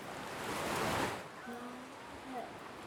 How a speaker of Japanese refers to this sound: また波の音。波は山を寄せて引いたら、また寄せて。